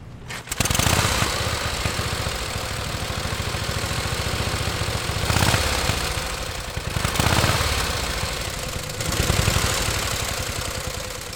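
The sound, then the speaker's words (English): A 1918 Harley-Davidson motorcycle engine starts up and runs loud, with a rough, rapid chugging beat and a few brief swells as the throttle rises. No one speaks. “Frenchman Christophe Degoulin and Pierre Lauverjat are driving a 1918 Harley-Davidson motorcycle around the United States to commemorate the 100th anniversary of the end of World War I.”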